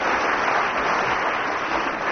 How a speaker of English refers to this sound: Round of applause